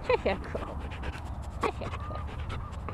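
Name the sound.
dogs panting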